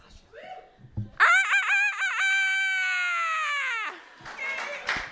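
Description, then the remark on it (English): A person's voice imitates a rooster crowing in one long, loud call lasting about three seconds, with a warbling start and a sustained ending, followed by brief murmuring. “That's an amazing rooster.”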